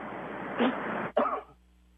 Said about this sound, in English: I'm really sorry. I was in a coughing fit for a minute because I've got a cold.